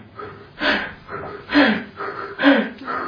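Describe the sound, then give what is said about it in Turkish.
A voice imitates labored, gasping breaths, three strained rasping inhales spaced about a second apart, fairly loud with brief pauses between. “Böyle nefes alamaz.”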